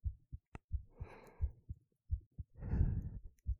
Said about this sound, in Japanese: ママの心臓の音、聞こえる？